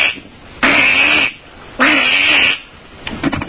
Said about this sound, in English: Give us a real duck call. You want a real legitimate duck call? Give us a duck call. Okay, guaranteed to bring results.